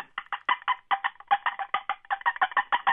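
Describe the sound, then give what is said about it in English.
A hen turkey gives a rapid, irregular string of sharp, loud cutting calls to alert other birds in the flock, about fifteen clipped clucks in quick succession, with no talking. “Sometimes that particular hen will be doing some cuts to alert other birds in the flock.”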